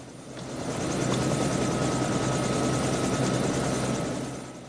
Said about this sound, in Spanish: Fuera, los dos pilotos dejan el helicóptero en marcha y cruzan corriendo el césped encharcado hacia los hombres de Deutler.